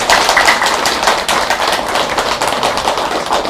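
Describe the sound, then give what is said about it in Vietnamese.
Sustained applause from a crowd, a dense, steady patter of many hands clapping at once with no pauses, loud throughout and without voices. “Cho nên nếu quý vị thấy là việc này là quá dễ như là ăn cơm thôi, thì xin vị hãy dành một tràng vỗ tay thật lớn để dẫn con em mình đến chùa.”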